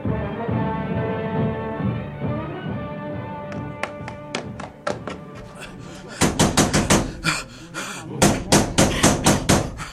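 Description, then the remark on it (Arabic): Urgent knocking on Umm Hakim's door in Mecca: a few scattered raps at first, then rapid, loud bursts of pounding in quick clusters, over a low, humming background that fades as the banging takes over. “افتحي افتحي الباب يا أم حكيم، افتحي الباب يا امرأة.”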